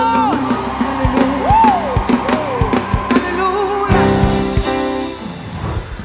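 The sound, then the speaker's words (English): A church audience shouts and whoops together in praise, loud and echoing, with rising yells and cheers layered over steady percussive beats and music-like tones, building into a sustained roar of crowd noise. “Just before we continue shouting, I want to celebrate the grace and the gift of God in the house.”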